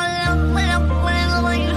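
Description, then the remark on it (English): Auto-tuned meows from several different cats sung as a melody over a steady, loud musical backing, the pitch-corrected mews gliding between notes in a continuous, song-like stream. “And someone has taken this is all the cats, different cats, all auto-tuned.”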